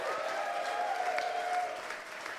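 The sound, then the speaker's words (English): An audience at a festival breaks into sustained applause, a dense, even wash of clapping that holds steady for a couple of seconds, with a faint sustained whistle-like tone running through it. “And before we go, one final note, we'd just like to say a massive round of applause and a big thank you”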